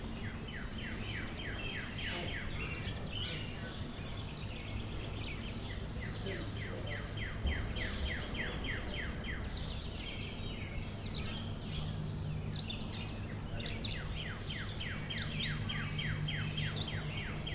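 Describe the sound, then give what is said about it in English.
Several birds sing and chirp continuously in a backyard at about mid-morning, with repeated quick trilling phrases and scattered tweets over a steady low background hum, no voices present. “Here are the birds from my backyard about mid-morning today.”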